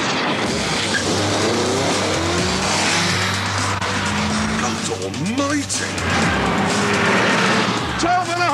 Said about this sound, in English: Top Gear's Jeremy Clarkson took one out for a spin and marvels as he floors it.